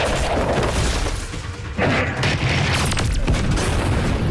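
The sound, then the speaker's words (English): Loud, continuous explosions from an animated fight scene against a demon rumble and boom with deep bass, a fresh blast bursting in about midway, the roar staying dense throughout with no talking. “They nailed every explosion.”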